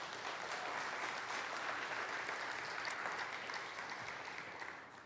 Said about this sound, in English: Anybody want to give Jesus a hand clap for that?